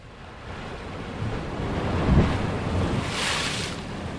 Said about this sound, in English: a rugged but unremarkable stretch of coastline where the water heaves and crashes against the sheer cliff face that rings the island